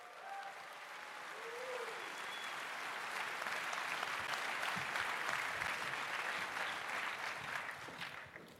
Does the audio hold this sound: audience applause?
yes